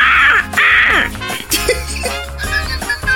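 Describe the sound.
A person imitates a crow with two loud, harsh, raspy caws in quick succession, each about half a second long, followed by a stretch of other voiced vocal sounds.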